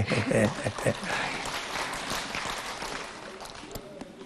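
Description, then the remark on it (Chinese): A crowd bursts into dense, crackling applause that begins over a few voices and keeps going steadily for several seconds before gradually thinning and softening toward the end. “被你们一鼓掌，图腾跑了，重新要找。”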